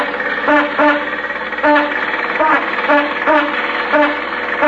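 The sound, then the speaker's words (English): A steam car engine runs with a steady, rhythmic chuffing, each puff carrying a hollow tonal hum, over a continuous hiss of background noise. “Don't want to bust up my steamer after she run all this way.”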